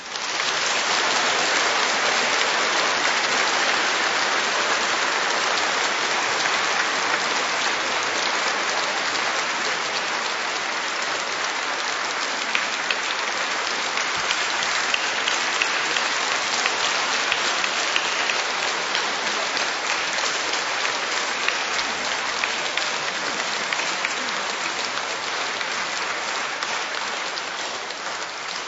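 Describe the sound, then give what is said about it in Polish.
Steady, dense applause from a large audience, a thick crackle of many clapping hands holding at an even loudness for close to half a minute, with no voices heard over it. “Ojcze Tadeuszu, wiem, że jeszcze bardziej są oklaski poza nami, w różnych stronach naszej ojczyzny i na świecie.”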